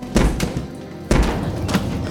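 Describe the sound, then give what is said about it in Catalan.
Two heavy thuds about a second apart as someone rams a shut bathroom door with a shoulder, each followed by a low, lingering rumble of the impact. “L'embasteix amb l'espatlla.”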